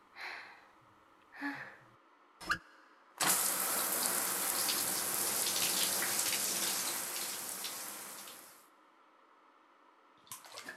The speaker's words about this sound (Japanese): いっぱい舐めちゃったからシャワーできれいにするね。